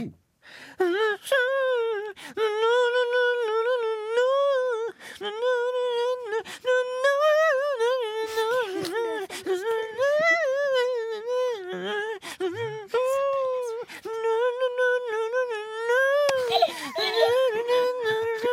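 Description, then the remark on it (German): A voice hums the melody of a pop song by a female singer, song number 3 in a guess-the-song game, for about eighteen seconds, carrying a steady mid-pitched tune with rising and falling notes and only brief pauses for breath. “Ich hätte ja gern noch mal gesummt für euch.”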